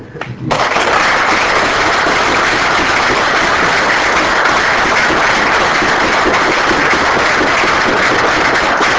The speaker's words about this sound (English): So that, I think that was the last talk. Is there any official announcement, or can we just give the organizers of the program, the conference, and the KIP stuff, and the speakers one last great applause?